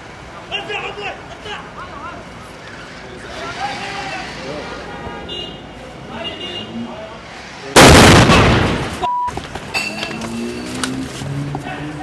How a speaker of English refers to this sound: That's the sound of our armored BMW exploding in a flash of fire about 15 feet from where we were standing. It took several shell-shocked seconds for reality to sink in. It's our car. It's in our car. It's our car. They put a sticky bomb in our car.